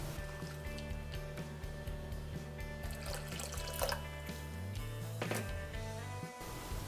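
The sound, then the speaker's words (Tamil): Water is poured into rava dosa batter and mixed, a steady splashing and sloshing that runs for several seconds over a low, constant background hum, with no one speaking. “எல்லாத்தையும் சேர்த்துட்டு ஒரு வாட்டி கலந்ததுக்கப்புறமா தண்ணி சேர்க்கலாம்.”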